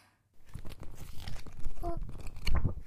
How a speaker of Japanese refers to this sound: あ、それノート？うわ、年季入ってんね。表紙も中身もくったくたじゃん。